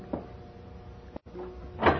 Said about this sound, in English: And then the sitting room door opened.